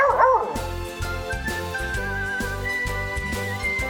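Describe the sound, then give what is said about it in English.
A single short, high bark or yip from Ella the dog, who has found her bone, rings out at the very start, then gives way to steady, upbeat background music with a bouncing bass line. “Ella the doggy has found her bone.”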